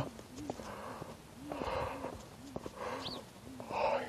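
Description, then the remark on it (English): A person yawns while walking along a road in the morning: long breathy, drawn-out exhales swell and fade over a steady rhythm of footsteps, fairly quiet. “Yawn. Sorry about that.”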